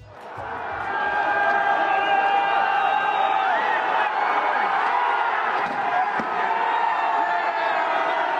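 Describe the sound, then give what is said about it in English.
Protesters in Kiev, Ukraine, smashing a statue of the Bolshevik leader Vladimir Lenin: a loud, dense crowd shouting and cheering throughout, with a few dull thuds and knocks breaking through the din near the end. “The sound in Kiev there, protesters smashing a statue of the Bolshevik leader Vladimir Lenin, a symbol of the Soviet dominance of Ukraine during the Cold War.”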